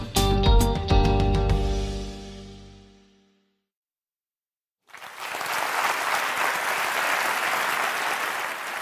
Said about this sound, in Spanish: Os voy a pedir otro aplauso. Esta vez quiero que aplauda la gente que use habitualmente cualquiera de las redes sociales. A ver cómo suena.